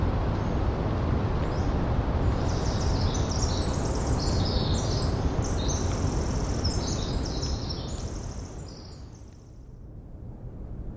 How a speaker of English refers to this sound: These sounds of the Oregon coast and the Eastern Washington Dawn Chorus were recorded by Gordon Hempton, the sound tracker, and co-founder of Quiet Parks International.